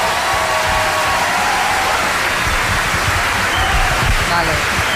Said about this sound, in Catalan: un aplaudiment, va.